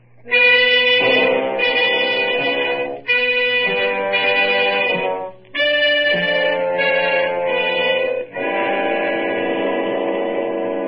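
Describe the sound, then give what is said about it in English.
A loud train horn sounds in four long, sustained blasts separated by brief pauses, with a steady low rumble of the train running underneath throughout. “Come on, forget that train.”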